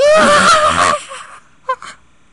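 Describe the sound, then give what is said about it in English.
A voice makes a loud, high-pitched keening noise deep in the throat like a wheezing dog, the noise a colonel made in a story. It wavers for about a second, trails off, then gives two short, wheezy catches. “The colonel screamed like a bitch, G had said, and then he'd made a weird, high-pitched keening noise deep in his throat like a wheezing dog.”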